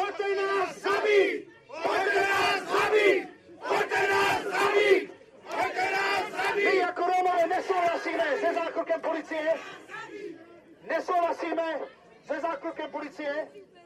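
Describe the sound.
Hundreds of protesters, mostly Roma and human rights activists, gather in the town of Teplice, Czech Republic, against police brutality and racial inequality. They chant and shout in loud, repeated bursts of many voices, each phrase separated by brief pauses, building a steady rhythmic rally cry throughout.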